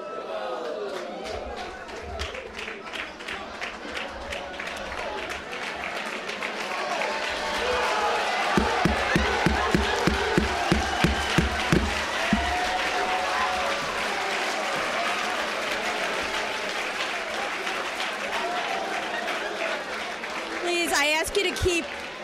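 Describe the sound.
An audience applauds for a sustained stretch, dense clapping mixed with crowd noise and voices, with a burst of rhythmic, evenly spaced claps rising midway before the applause continues.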